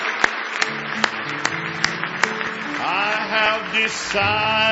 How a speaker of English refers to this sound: Give him a big hand clap of praise if you love him tonight.